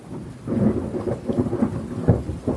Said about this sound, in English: the rain began to spit and a distant roll of thunder could be heard.